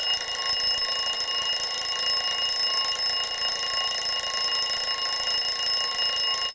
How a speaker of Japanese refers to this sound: 時計は？あった。アラームは？こう？